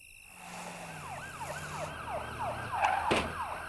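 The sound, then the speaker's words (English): A police or ambulance siren, heard at midnight coming from the center of the town, wails in quick, repeated rising-and-falling sweeps, about eight cycles at a steady rhythm, over a low rumbling hum. No one speaks. “Sally thinks it's a police car or an ambulance.”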